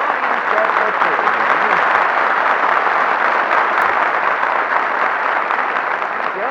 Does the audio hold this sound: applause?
yes